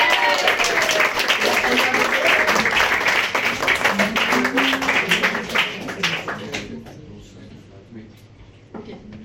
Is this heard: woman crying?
no